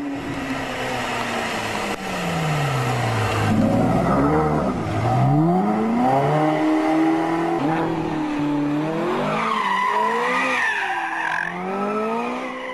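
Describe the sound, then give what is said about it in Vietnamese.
A dark maroon Mercury car, apparently doing at least 100 km/h, revs hard as it speeds toward them, its pitch sweeping up and down through gear changes, with a screech of tires near the end. Loud and continuous, no voices. “Chiều nay, lúc gần kết thúc buổi lạy, thật ra là buổi lạy chót trong ngày, vừa lúc tôi nhìn lên, thấy có chiếc xe nâu đỏ sậm Mercury đang tống ga chạy ao về phía chúng tôi.”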